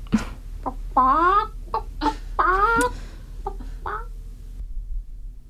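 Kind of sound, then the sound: animal, chickens clucking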